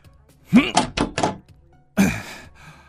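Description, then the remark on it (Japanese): Someone shoves against a door locked from the inside, producing a quick series of dull thuds and rattles, then one more heavy bump after a short pause, with a faint strained grunt. “ダメだ、中から鍵をかけられてる。”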